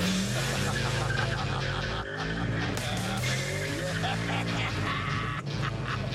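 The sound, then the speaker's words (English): A powerful Mustang car engine roars while its cold tires squeal and skid in wavering, drawn-out whines, loud and continuous throughout, during a hard run on the track at the Las Vegas Motor Speedway. “now he's invited me to get into one of these road rockets for a spin on the track.”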